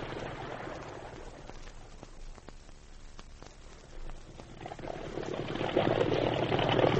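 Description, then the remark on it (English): A motorboat engine roars steadily at full throttle, a dense rumbling drone with rushing noise that swells louder toward the end, no voices heard. “Quick, Steve, cast off. Here we go. Got to get aboard that boat and take off the passengers and crew.”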